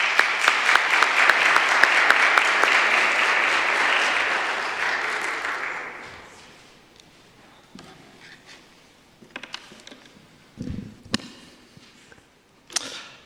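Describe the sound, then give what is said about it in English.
A crowd at a Lenten faith-sharing series on Good Friday claps steadily in dense applause for about six seconds as a speaker comes forward, then it fades out, leaving scattered faint bumps and a few sharp knocks in near silence. “So come on up, let's give him a round of applause.”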